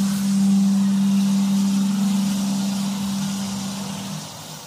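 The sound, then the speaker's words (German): A train rumbles through the middle of a residential neighbourhood with a loud, steady low drone and broad roaring noise, holding strong for several seconds before easing off near the end. “Mehrmals am Tag donnern Züge mitten durch die Wohnsiedlung.”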